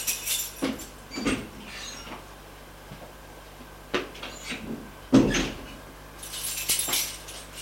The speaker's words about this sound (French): Arrivé au 4e étage, il ouvre la porte de droite.